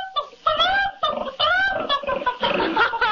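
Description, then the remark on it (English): A pig oinks and squeals alongside a chicken clucking, produced from a hat by the magician Presto, several loud calls tumbling over one another in quick bursts with no pause between them. “You've got the makings all right, but I don't think I could eat a real live pig and a chicken.”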